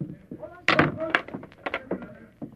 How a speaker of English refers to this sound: I'll lock the door.